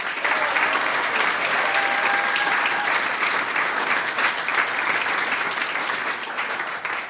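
Sustained audience applause, a dense, steady wash of many hands clapping at even loudness for about seven seconds before easing slightly at the end, with no talking.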